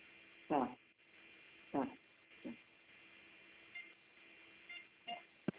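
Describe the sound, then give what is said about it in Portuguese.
Several short electronic telephone dialing beeps, as someone dials a phone to call a man, come at irregular intervals over a thin, muffled phone-line hiss, with a quick final pair of blips near the end. “Ligar lá pro cara lá, então.”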